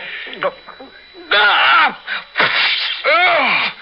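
Someone spits out a mouthful of whiskey, sputtering and choking in a loud run of four or five strained, gasping coughs and retching vocal bursts.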